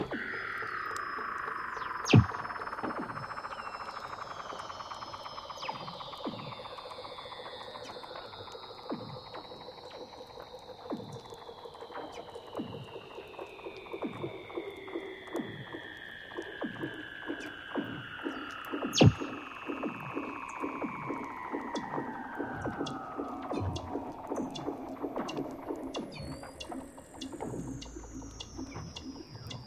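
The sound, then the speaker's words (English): Weddell seals call underwater in long, eerie descending trills that glide slowly downward in pitch, layered over rapid rhythmic clicking pulses and a few sharp chirps, with no voices present. “And it's these whistlers that remind me of the underwater sounds of Weddell seals.”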